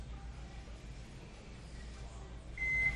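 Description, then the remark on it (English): A short, high electronic beep from the touch-button control panel of a Wolf oven set to broil sounds near the end, clear, over a low steady hum. “The sounds of the beeping in the background is not Chef Eric rolling the Greyhound bus over me with insults.”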